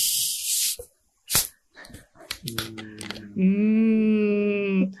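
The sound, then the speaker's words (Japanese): Cola fizzes with a bright, loud hiss for under a second as it's opened, followed by a few sharp clicks and then a sustained, high whining vocal sound. “美味しそうな。 コーラです。”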